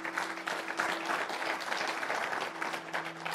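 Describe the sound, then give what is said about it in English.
A crowd applauds itself for having raised the funds needed for the Pakistan Solar Project, clapping steadily for the whole few seconds, a dense wash of many hands with no pauses, accompanied by a faint low steady hum. “So please clap for yourself, please.”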